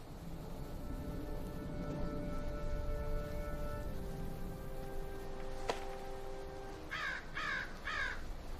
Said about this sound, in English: watches a crow fly by.